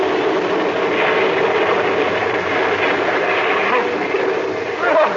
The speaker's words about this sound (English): There's a big wave coming aboard. Hold on, Billy. She's going to sweep the deck.